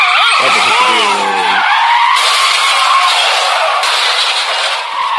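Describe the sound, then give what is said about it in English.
Loud, sustained tire screech from a car skidding, with wavering high-pitched squeals and a rough engine roar underneath, lasting several seconds without pause. “you're driving a car right now.”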